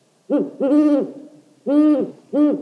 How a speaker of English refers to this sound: Owls.